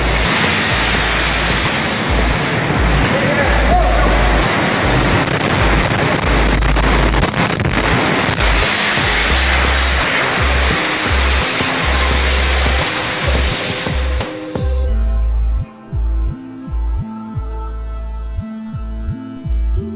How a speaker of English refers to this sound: You can see the firemen assembled here, the police officers, FBI agents, and you can see the two towers. A huge explosion now raining debris on all of us. We better get out of the way!